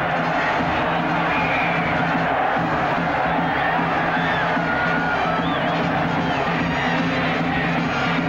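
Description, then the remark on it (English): A large football stadium crowd roars and cheers continuously as a player races down the field for a touchdown, a dense, loud wall of shouting voices with occasional whoops rising above the sustained din. “The crowd, coach, and pooch are ecstatic.”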